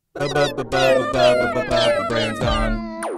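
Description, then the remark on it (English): A cat meow sound effect, made without a real cat, plays loudly: about five drawn-out, wavering meows in quick succession, ending with a short high-pitched squeal. No one speaks. “No actual cats were used in the making of the skit.”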